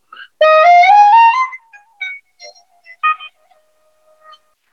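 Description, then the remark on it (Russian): A shvi flute, a gift from Jivan Gasparyan, plays a loud, bright run of rising stepped notes, then breaks into scattered short, high chirps and trills imitating birdsong as mountain herders' musicians do, with quiet gaps between them and no voices. “Допустим, вот этот инструмент называется шви, мне его подарил Джован Гаспарян, тот самый, вот, шви.”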